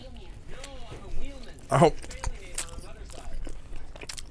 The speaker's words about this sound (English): This part, it's just you and me chewing. It's wonderful. It's great.